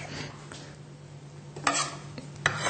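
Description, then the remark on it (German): A knife slices through a dark yellow-orange mango in a few short, crisp cuts, the sharpest two near the end, over a steady low kitchen hum with no one speaking. “Dunkelgelb, dunkelorange, schneidet sich auch wunderbar.”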